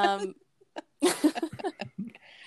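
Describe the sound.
A short, sharp sneeze bursts out, a quick noisy blast partway through, with bits of voice and brief vocal sounds before and after it.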